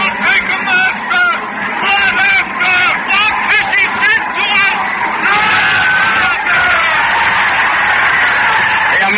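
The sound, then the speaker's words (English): A large crowd in a town square shouts and yells all at once, a loud, dense roar of overlapping voices with scattered screams rising out of it, sustained without a break from start to finish. “The whole square is whirling and turning and shouting.”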